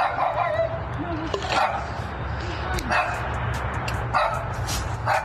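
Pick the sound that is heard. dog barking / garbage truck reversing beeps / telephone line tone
dog barking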